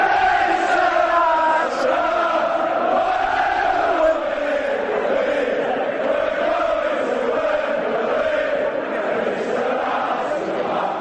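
A huge crowd in a football stadium sings in unison, thousands of voices swelling into a steady, loud, melodic chant that carries on without a break for the whole stretch.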